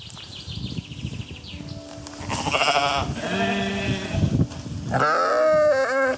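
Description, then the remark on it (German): Several sheep bleat in overlapping, wavering cries, loud, with a brief pause before another strong bleat rises near the end over faint outdoor background noise. “Er unterstützt jetzt nämlich die Rainbow Wool Farm, auf der mehr als 20 schwule Schafböcke ein sorgenfreies Leben führen können.”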